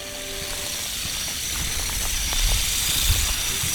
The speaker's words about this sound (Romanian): Ce se aude așa ca un roi de cicade dezlănțuite reprezintă de fapt echipamentele cu care muncitorii zgâlție crengile, astfel încât măslinele coapte să se desprindă de pe ramuri.